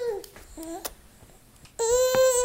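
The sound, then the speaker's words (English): A newborn baby makes a few short, high-pitched babbling sounds, pauses briefly, then bursts into a loud, sustained wail. No one else speaks. “And think about newborns.”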